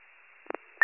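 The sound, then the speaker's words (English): Thin, band-limited radio static hisses steadily, broken by two quick muffled pops midway, then a sudden loud burst of harsh crackling noise at the very end. “or if your radios are too close to each other, but all I got was static.”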